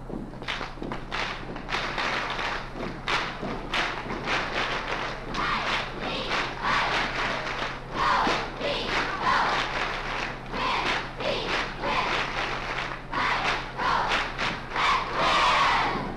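A group of cheerleaders shouts a rhythmic school cheer in unison, punctuated by sharp claps or stomps. The chant stays loud and steady, building to a bigger burst near the end.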